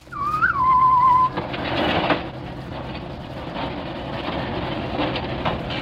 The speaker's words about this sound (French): C'est là d'ailleurs que nous prîmes rendez-vous avec le directeur d'une des plus grandes fabriques de glace de Paris. Quelques jours plus tard, j'arrive à cette usine, moteur, toboggan, d'où dévalent des blocs de glace, forte odeur d'ammoniac.